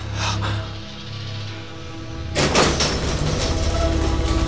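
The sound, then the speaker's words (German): A low mechanical hum gives way to a loud, broad grinding rasp as a heavy sliding wall, a sliding gate, scrapes aside to reveal a hidden workshop, continuing steadily with a rough, rubbing texture. “Die Wand! Sie schiebt sich zur Seite.”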